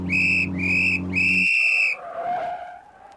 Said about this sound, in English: The little fat policeman blew his whistle three times and waved his arms.